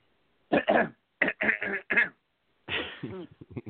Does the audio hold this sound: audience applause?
no